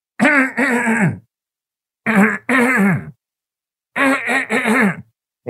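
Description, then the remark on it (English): Loud throat clearing repeated three times, each a pair of gravelly 'ahem' bursts separated by brief silences, with no talking in between. “He didn't get the hint. He's not clearing his throat.”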